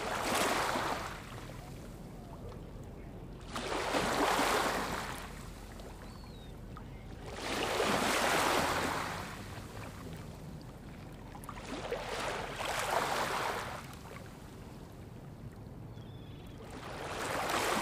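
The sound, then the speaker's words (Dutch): Waves wash up on the city beach of Kristiansand in southern Norway in a steady rhythm, about five hissing surges rising and falling every few seconds over a low, constant rumble, with no voices. “Dit is het stadstrand van Kristiansand, het zuiden van Noorwegen.”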